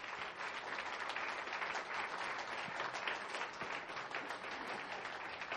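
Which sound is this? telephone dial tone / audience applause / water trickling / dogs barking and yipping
audience applause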